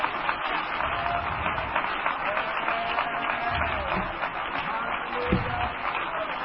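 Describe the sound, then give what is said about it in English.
A crowd claps hands for the Lord in a steady, dense burst of applause, with scattered voices mixed in and no clear pauses. “Let's clap our hands right now for the Lord.”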